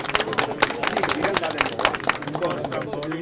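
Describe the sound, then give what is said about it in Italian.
An audience applauds, a dense, steady patter of many hands clapping for a few seconds at an even, fairly loud level, with some crowd voices mingled in. “Forza, un applauso di nato, andiamo!”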